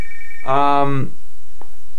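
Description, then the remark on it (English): A telephone rings once in a short, buzzy electronic burst, led in by a thin high beep, then fades to quiet with a faint click after. “We have another phone call.”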